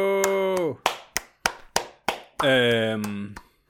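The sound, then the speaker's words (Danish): Five quick, evenly spaced hand claps, slightly muffled, sit between two drawn-out vocal exclamations, one just before the clapping and one right after. “Jeg prøver at klappe på en måde, hvor jeg ikke klipper lyden.”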